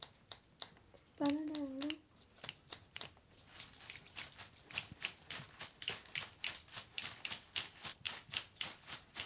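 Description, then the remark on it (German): Several pairs of scissors, played together by a group, snip away in a quick, steady rhythm, sharp clicking cuts piling up and growing denser, with a short vocal sound from a child near the start. “Mal die Scheren nehmen in die Hand.”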